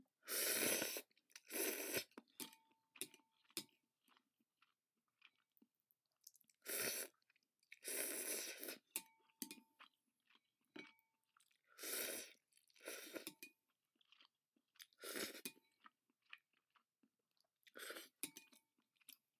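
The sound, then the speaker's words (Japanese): Eating noises: repeated loud slurps of noodles in bursts, with softer wet chewing and mouth sounds between them, no talking. “このすする音は取れてると思うけど、こう口の中のなんていう咀嚼音とか取れてるかな。”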